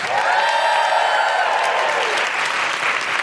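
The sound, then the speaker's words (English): A crowd applauds steadily for the comedians Olga Koch and Jessica Foscue, a dense wash of clapping that stays loud and even throughout, with a few whoops rising above it early on. “A huge round of applause for Jessica Foscue.”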